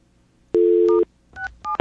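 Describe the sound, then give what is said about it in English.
A steady telephone dial tone hums for about half a second on a Bell Atlantic line, then three quick two-pitch keypad beeps follow in a short, uneven sequence as *67 is dialed and a wrong number is hit, with no talking. “Can we do *67 from these lines? Let's find out. Whoops, I hit the wrong number.”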